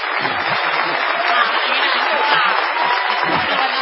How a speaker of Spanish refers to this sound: Corresponde ahora la ovación delirante dedicada al artista antes llamado ….